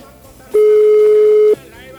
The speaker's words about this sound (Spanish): Pero ya sonó tanto que me parece que no me van a atender, ¿eh? A no ser que hayan visto el número y dicen, nah, a este no lo atiendo.